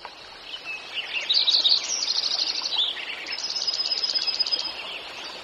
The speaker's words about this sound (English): One of the magical gifts of spring is to hear the dawn song. As early morning light extinguishes the stars, as the first rays of sunlight fill the trees, male birds begin to pour out their songs.